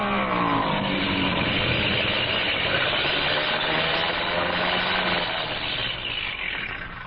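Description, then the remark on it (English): A loud, steady airplane engine drones as the plane comes in fast to land, its engine acting up, the pitch sliding gradually lower before the roar eases off slightly at the end. No voices. “Engine's been acting up. I was afraid to trust it.”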